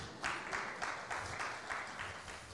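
Applause from a group, a steady patter of clapping with regular swells roughly every half second, moderately loud and continuing throughout with no voices over it.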